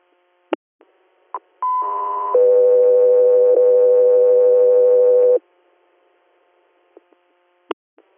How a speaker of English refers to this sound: 303 Air, stand by for tones.